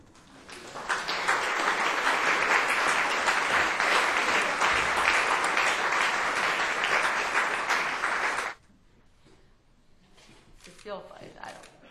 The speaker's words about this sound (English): Funny clapping for poems. You don't have to put so much effort in it.